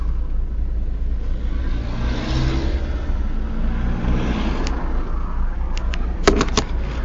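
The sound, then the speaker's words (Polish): A car engine rumbles steadily at low speed in a slow traffic queue waiting to exit, its pitch rising gently as the car creeps forward, with a few sharp clicks near the end and no talking. “Trochę się ruszyło. Tylko dwa samochody zjechały.”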